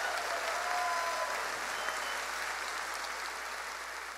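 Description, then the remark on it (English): An audience breaks into steady, loud applause in praise of the Lord that holds for the full four seconds, a dense wash of clapping with a few faint raised voices of praise mixed into it. “Give the Lord a shout of praise in the house of God.”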